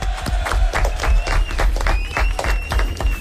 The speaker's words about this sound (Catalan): Un aplaudiment, molt bé.